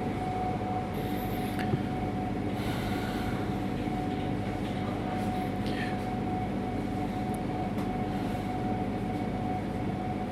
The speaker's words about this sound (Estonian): Kuulsite praegu, jah? Et vaikust ei ole. Et igal pool, isegi kontsertsaalides on nii suur ventilatsiooni ja muude sirinate asi. Et ja kui seda kanda üle muule maailmale, siis suriseb igal pool.